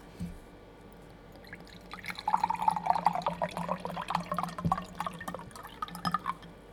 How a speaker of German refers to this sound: Ein Wasser? Okay, schütte ich immer was ein.